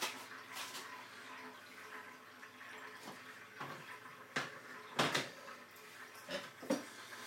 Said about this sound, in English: Right, whenever I use the water filter, I always fill it back up again because obviously you never know when you're going to want it again, are you?